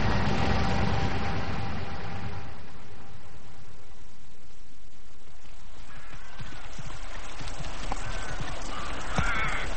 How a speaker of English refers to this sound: God, I'll be glad when this is finished. The horses are paddling in mud.